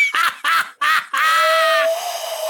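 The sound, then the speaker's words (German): A person tries to whistle a bird call: three short, nasal, quack-like bursts, then a longer drawn-out note with a thin whistling tone running through it. “Warte, ich kann richtig geil pfeifen, pass auf.”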